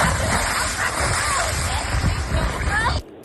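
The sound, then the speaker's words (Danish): A person jumps into water, which splashes and churns steadily and loudly for about three seconds, with voices in the background, then cuts off abruptly to near quiet. “En af plaskerne igen?”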